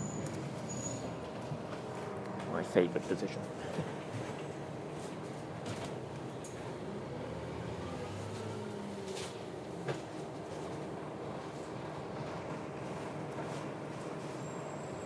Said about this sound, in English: Just standing in the wheelchair bay on the bus.